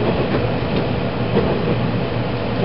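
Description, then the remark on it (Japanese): A six-car local train bound for Nagano running on rails, next stopping at Kurohime: a steady, unbroken rumble with a low hum and a hissing wash of noise, holding an even loudness throughout, with no voices. “次は黒姫に停まります。途中ブーマには16時15分、終点長野には16時30分の到着です。車は6両編成です。”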